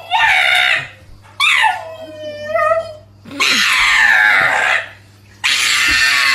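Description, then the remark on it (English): A pug dog screaming: four loud, shrill, drawn-out wails in quick succession, some rising and falling in pitch, intense, with brief pauses between them and no talking. “I would like you to do a mashup of the opera, the singing donkey, and the screaming pug.”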